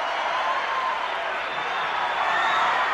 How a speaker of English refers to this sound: The crowd's on its feet, going wild.